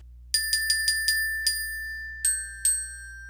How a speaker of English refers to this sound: Yes, the Glockenspiel. Now, the thing about the Glockenspiel is that it is so timbrally pure and piercing, it's almost impossible to not hear it. Like, you could put it way down low in the mix and you'll still hear it.